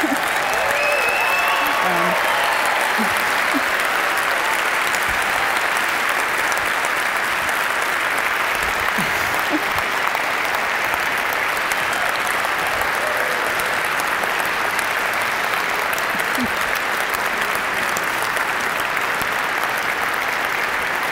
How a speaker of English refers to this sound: He does deserve a lot of applause because I don't think he's slept much in the last 3 months, actually.